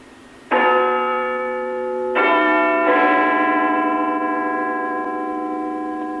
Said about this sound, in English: The sound of Big Ben has been broadcast live almost without break for over 90 years on BBC Radio. Now over to Westminster, hopefully, for the chimes of Big Ben.